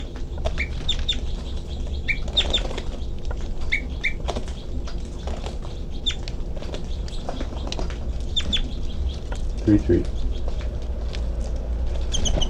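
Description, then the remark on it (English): A captive female bird in her cage gives short, high flight calls in scattered bursts, some doubled, over a steady low rumble and background noise, with a few soft rustles and knocks between calls. “Now she's giving flight calls.”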